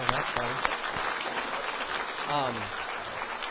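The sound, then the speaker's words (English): People applaud steadily for a few seconds for a group of ladies, a dense patter of clapping, with voices calling out and talking over it partway through. “We can go ahead and clap for them.”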